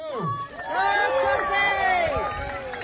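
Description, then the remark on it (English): A lively crowd cheers and whoops at a muktuk (whale blubber) eating contest, many overlapping voices rising in excited shouts and calls, sustained throughout. “Cheer them on, guys. Come on.”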